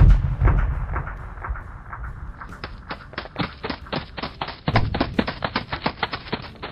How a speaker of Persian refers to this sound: شرایط سختی بود. از یه طرف برف و سرما، از طرف دیگه مینهای پنهان و زنگ زده که بدجوری خطرناک بودن. مشغول کار بودیم که صدای انفجار بلند شد.